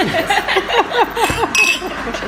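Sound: wine glasses clinking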